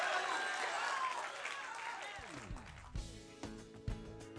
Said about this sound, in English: When one is clapping, everybody ought to clap.